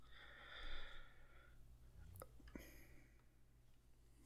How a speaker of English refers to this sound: I got a snoring dog behind me.